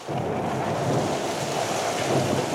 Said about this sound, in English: And thunder. I did it right.